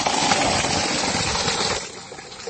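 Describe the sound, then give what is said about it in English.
Water gushes steadily from a running borewell pump that supplies water for people, a loud, continuous rushing with a low motor hum beneath it, easing off slightly near the end. No one speaks. “And you can see the borewell that we have put here, and it's giving water for the people.”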